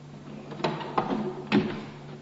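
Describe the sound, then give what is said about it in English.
A door opens or closes with a few short wooden knocks and bumps over about a second, against a steady low hum. “Oh, the door's open.”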